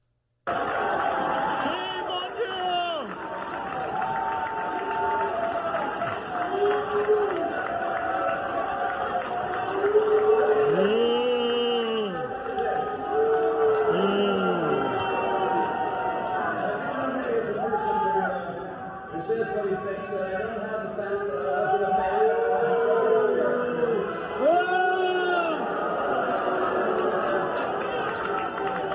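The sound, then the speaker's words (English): A large crowd of Utah delegates boos Mitt Romney steadily for about half a minute, drawn-out low jeers overlapping with shouts and heckling, loud and unbroken throughout. “Just don't go in public unless you want to get booed.”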